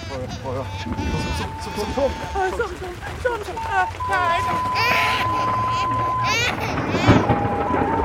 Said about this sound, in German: Dann kam ein ungeheurer Sturm. Wind und Regen fetzten die Grasdächer der Hütten nur so auseinander.